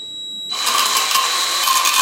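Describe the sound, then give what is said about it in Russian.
A cordless drill spinning a sharpening disc to sharpen a knife held at an angle against the disc's edge: a thin, high whine, then after half a second a loud, harsh, hissing grind that holds steady to the end, with no talking. “Прикладываем нож вот под этим углом к кромке диска. Включаем шуруповерт.”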